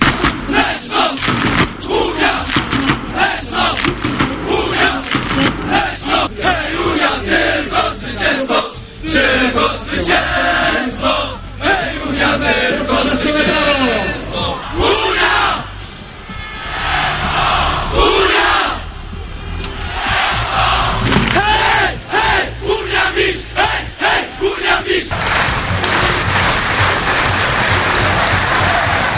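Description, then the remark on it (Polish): A large crowd of speedway fans at the Smoczyk stadium in Leszno, Poland, roars, cheers and chants continuously and loudly, with bursts of applause and rhythmic shouting swelling and dipping briefly before surging again, during an evening home win of Unia Leszno over Włókniarz Częstochowa. “Oczywiście brawa dla leszczyńskich kibiców, którzy jak zwykle nie zawiedli. Doping gorący i na pewno pomógł leszczyńskim żużlowcom w odniesieniu tego zwycięstwa.”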